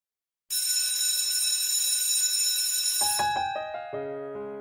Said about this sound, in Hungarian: Most csak ennyit tudtam mondani, de már hallom is a csengő hangját, ezért hát elköszönök, áldás békességet!